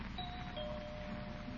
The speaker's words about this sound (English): Guess she didn't hear the bell.